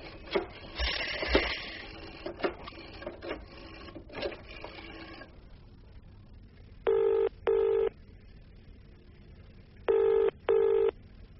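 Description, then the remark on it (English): A woman dials a telephone to call her mother, with several seconds of rattling clicks, then after a pause two double-burst rings sound, steady and clear. No one speaks. “I'll phone Mama first.”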